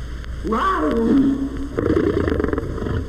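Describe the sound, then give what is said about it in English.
Octavius, a young Maasai lion cub, practices roaring: a wavering, mid-pitched cry that bends up and down, then gives way to a rougher, raspy growling stretch over faint steady background noise. “Octavius, the Maasai lion cub, practices his meanest roars.”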